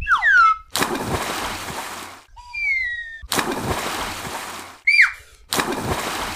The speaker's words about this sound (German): Dann sprangen die drei ins Wasser.